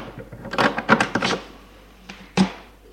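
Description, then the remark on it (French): A door is shut by a man in a bathrobe after letting a visitor in: a quick cluster of rattling handle clicks, then a pause and a firm, dull thud, followed by a faint final knock. No one speaks. “Gilles ferme la porte.”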